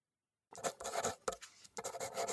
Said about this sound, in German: Ich liebe es, wie die Stiftspitze über das Papier gleitet und Kringel und Schlaufen darauf hinterlässt, die so viel bedeuten.